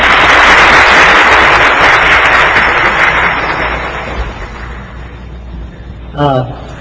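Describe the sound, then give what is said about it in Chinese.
Loud, steady audience applause welcoming a man to give a brief testimony, gradually thinning and fading over several seconds, followed by a brief moment of a man's voice starting to speak. “大家鼓掌欢迎。”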